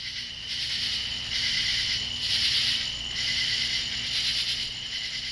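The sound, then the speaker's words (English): Evening chorus of crickets and katydids, a dense, continuous high-pitched trilling with pulsing swells every second or so, steady and fairly loud with no voices. “Those were the evening sounds of two kinds of insects, crickets and katydids.”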